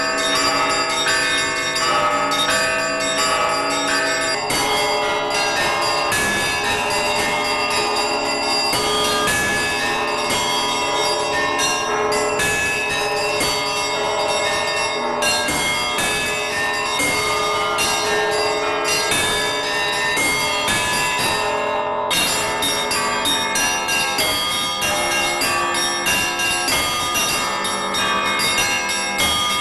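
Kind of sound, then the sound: signal or alarm, church bell ringing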